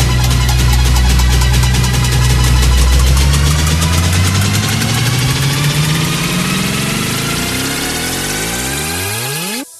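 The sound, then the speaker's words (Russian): A loud engine runs steadily, then its pitch climbs as it revs higher and higher before cutting off abruptly. No voices, just the continuous mechanical roar. “И чайку прилагается пилюля из самых глубин и недр моторов.”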